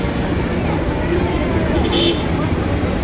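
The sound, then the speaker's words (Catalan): Busy street ambience in the city of Karnal with a steady rumble of passing cars and buses, a dense wash of road noise, crowd babble, and a brief horn-like tone rising out of the traffic. “De tota manera, tot i ser petita, Karnal és una ciutat força caòtica, amb cables d'electricitat per tot arreu, brutícia, trànsit...”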